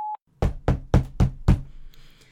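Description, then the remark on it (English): Five firm, evenly spaced, loud knocks on a door, following a brief electronic tone, with a faint high-pitched hum lingering afterward; someone has been knocking for almost five minutes. “I've been knocking for almost 5 minutes now.”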